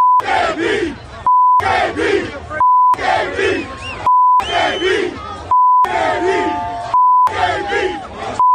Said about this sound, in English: So was the black hole. So was the crowd, which was chanting, bleep AB, bleep AB, throughout the entire game.